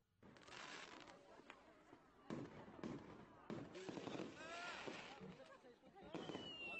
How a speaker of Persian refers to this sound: آتش بازی های متفاوت.